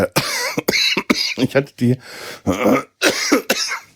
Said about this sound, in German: Entschuldigung, ich brauche einen Schluck. Was für eine scheiß Husterei.